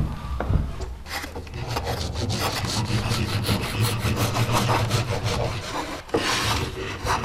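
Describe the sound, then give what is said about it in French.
A hand saw, a rasp and chisels work wood at the same time, with steady repeated scraping strokes and a continuous gritty rasping underneath, no talking. “Symphonie pour rap, scie et ciseaux en même temps.”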